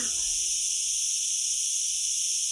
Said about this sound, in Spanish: Sí, las chicharras. Concierto para chicharras, que es así todo el rato, ¿no?